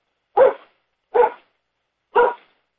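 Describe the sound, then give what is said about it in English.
A dog barks three times, each bark short and sharp, with a brief gap between the first two and a longer pause before the third; clear, no talking. “The dog doesn't object.”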